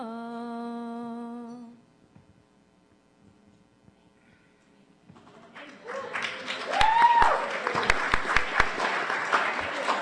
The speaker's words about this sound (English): I guess we're not supposed to clap.